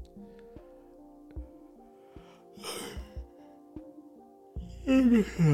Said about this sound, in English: Sorry for yawning.